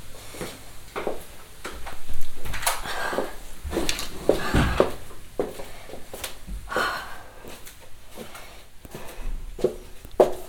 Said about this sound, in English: I'll open the door.